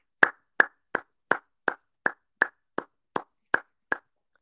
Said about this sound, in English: And also, before I get to a couple of stars I want to mention, we need to give Victor Radley a round of applause.